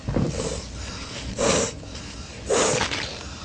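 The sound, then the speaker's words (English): Wet, congested sniffing from someone with a runny nose, with a couple of sharp, noisy snorts spaced about a second apart and a softer one at the start. No talking. “Oh, see, runny nose again.”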